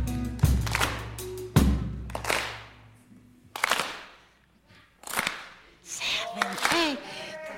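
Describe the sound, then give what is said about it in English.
A crowd keeps up a soul clap on the beat without any music, clapping together in a slow, steady rhythm, sharp loud claps roughly every second, with voices shouting and whooping over the beat. “Hey, keep the clap going as long as you want.”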